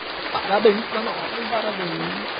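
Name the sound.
applause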